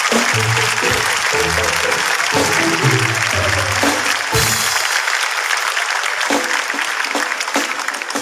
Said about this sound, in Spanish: Oye, un fuerte aplauso para los niños, ¿verdad?